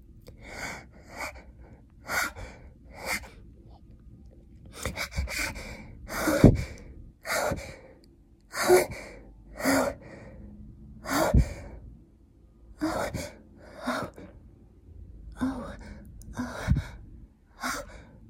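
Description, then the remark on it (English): Heavy, breathy panting from a woman: a long run of quick, airy inhales and exhales in an uneven rhythm, with some gasping breaths louder than others. No one speaks. “She's just panting with anticipation. Her breathing is getting crazier.”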